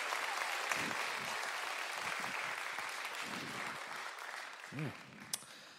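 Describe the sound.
An audience claps in a dense, steady round of applause that holds at a fairly loud level, with a few scattered voices and whoops rising through it before it begins to thin.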